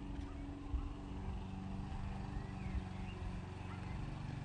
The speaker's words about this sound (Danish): Der er en plæneklipper.